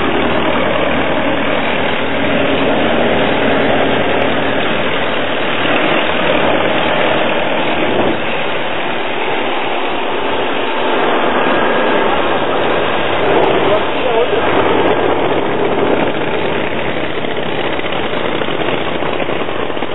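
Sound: engine running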